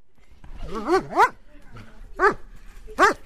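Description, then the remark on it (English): A guard dog barks four times in short, sharp, throaty bursts, two close together and then two more spaced out, loud over a quiet background, in the Hungarian village of Tatarszentgyörgy near Budapest. “This dog is no family pet. He's a guard dog, brought here in the weeks after people came in the night.”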